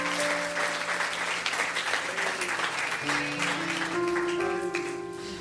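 An audience claps steadily as a hand clap of praise to the Lord, a dense, sustained wash of applause, while sustained organ or keyboard chords hold underneath and shift upward near the end.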